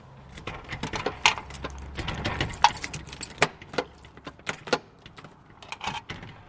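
A bunch of keys jangles and clinks in irregular bursts of bright metallic rattles, with a low steady rumble underneath and no voices, as Jerry Keane's Wallpapers on the Naas Road in Dublin is locked up at 5 o'clock.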